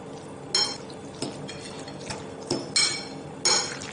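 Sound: two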